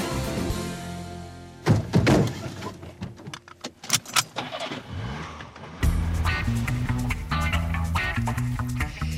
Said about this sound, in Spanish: Nos vamos de viaje como todos los viernes en el Buenos Días Madrid. Es verdad que se oye arrancar un coche, sí, porque Honorato siempre sale en coche.